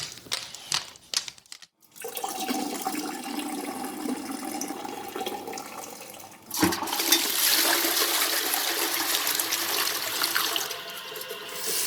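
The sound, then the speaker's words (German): A few quick clicks and rattles, then a toilet flush with rushing water, giving way to a louder, steady stream of running tap water as hands are washed. No one speaks. “Ich gehe noch mal schnell Pipi machen.”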